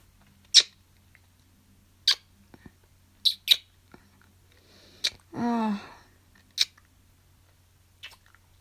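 A kitten gives one short, clear meow about halfway through, surrounded by scattered sharp clicks and crisp tapping sounds, with no talking.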